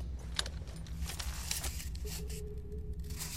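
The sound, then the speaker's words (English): Rats scurrying and squeaking in old catacombs: a flurry of small scratchy clicks and skittering taps, followed by a short thin squeal, all over a steady low rumble. “More blasted rats! That's right, run, you little bastards!”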